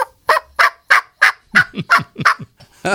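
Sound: wild turkey gobbling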